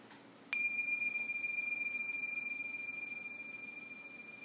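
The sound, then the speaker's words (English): A bell is struck once during a mindfulness meditation and rings out with a clear, sustained metallic tone that lingers and slowly fades over several seconds, heard alone against a quiet background. “And at the sound of the bells, let's shift gears into the hearing.”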